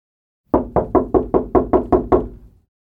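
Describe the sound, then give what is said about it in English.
A steady series of about nine firm knocks on a door, evenly paced, ringing with a woody thud before stopping. “He hears another knock on the door.”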